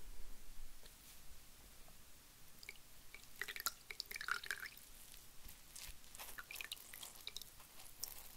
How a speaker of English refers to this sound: Okay, first I'm going to wet your face with this cloth and hot water. Don't worry, it won't burn you. Now, let me just wring the cloth out.